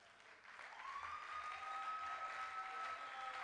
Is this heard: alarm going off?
no